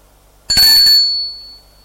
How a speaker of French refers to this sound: Il hésite. Sonne à la porte de l'appartement de son père.